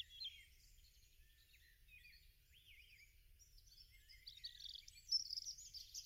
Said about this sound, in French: Tu entends le gazouillis des oiseaux.